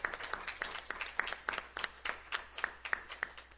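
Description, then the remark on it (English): An audience claps steadily together in praise of God during a church service, sharp overlapping hand claps forming a continuous round of applause with a loose rhythm, moderately loud, with no talking. “Let's give God a hand clap of praise.”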